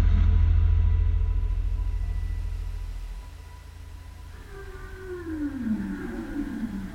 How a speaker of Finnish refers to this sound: Siellä on nimittäin katosta roikkuvan ryhävalaan luurangon kunniaksi myös kiehtova soundtrack. Ryhävalaan laulu.